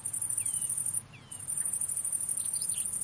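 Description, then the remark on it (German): Crickets chirp softly at dusk on a pleasant evening after a hot, cloudless, sunny day, with a few short, thin high chirps scattered over a low, steady background hum. No one speaks. “Da bleibe ich noch ein bisschen in der Dämmerung sitzen und höre den Grillen zu.”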